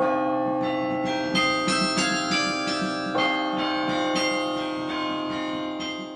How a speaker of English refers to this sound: Movie themes like this one from Beauty and the Beast ring from bell towers with increasing frequency